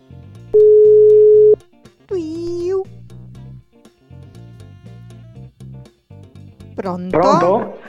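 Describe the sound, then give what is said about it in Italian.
A single steady, loud ringback tone of about one second sounds as a phone call goes out, followed by people talking and a brief high-pitched vocal flourish. “Squilla.”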